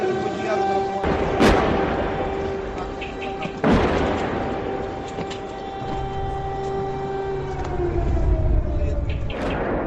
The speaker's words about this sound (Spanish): El sonido de las sirenas antiaéreas, de los bombardeos, parecía mentira, ¿os acordáis, no?